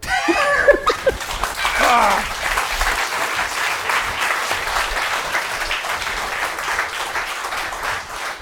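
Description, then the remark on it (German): An audience at a live show applauds and shouts for an encore while the performers wait behind a box: loud whoops and cheers ring out over the opening seconds, then dense, steady clapping carries on without letup to the end. “Stehen dahinter, ihr schreit, dann kommen wir schnell raus und machen eine Zugabe.”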